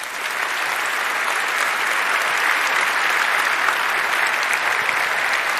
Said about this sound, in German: Jetzt erstmal einen ganz herzlichen Applaus